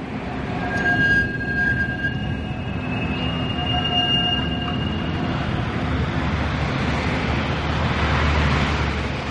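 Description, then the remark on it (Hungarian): At night, trams rumble along their tracks, with high ringing, bell-like tones sounding over the steady rail noise for several seconds before fading into the low rumble. No one speaks. “Éjszaka van. A villamosok csilingelnek.”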